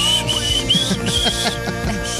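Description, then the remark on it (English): Someone whistles a high, wavering tune along with music, the whistle riding over a rhythmic song with steady beats and instrumentation, fairly loud. “I'm gonna whistle with all the songs.”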